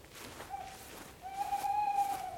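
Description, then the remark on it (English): A tawny owl hoots from oak trees along a footpath in a quiet outdoor setting: one short note, a brief pause, then a longer, wavering hoot that carries clearly. “The tawny owl that so often hoots from the oak trees along the footpath.”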